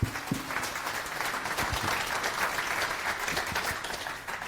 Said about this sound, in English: Big round of applause